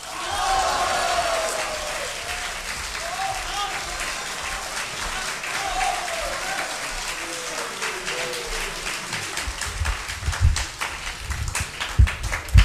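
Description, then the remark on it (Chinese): A large audience at a xiangsheng (crosstalk) performance of "Chi Lun" by Guo Degang and Yu Qian applauds steadily for over ten seconds, a dense wash of clapping with a few voices calling out early on, and some sharper, louder claps near the end. “谢谢，谢谢大伙儿给我一个人的掌声。”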